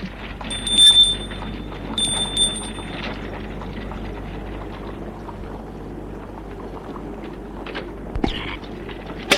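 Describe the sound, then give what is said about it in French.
An electronic doorbell at the door of a lycée (school) rings twice, each ring a thin, steady high tone lasting about a second, over a constant low rumble and faint shuffling noise. “Arrivé au lycée, il sonne à la porte.”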